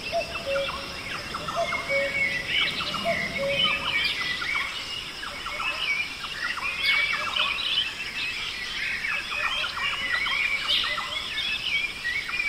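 A dense chorus of birds chirps and sings continuously, many overlapping calls and trills at a moderate level, with short repeated notes weaving through a steady outdoor background. No one speaks.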